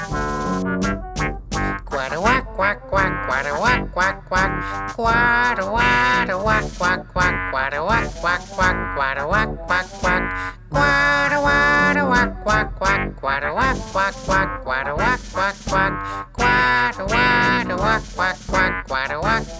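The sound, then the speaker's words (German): A bouncy, loud quack-quack song sung by ducks, full of duck quacks repeated rhythmically in time with the music, likely voices imitating ducks over a steady upbeat accompaniment. “Sogleich singen die Enten ihr Quack-Quack-Lied und wackeln ihre Schwanzfedern im Takt.”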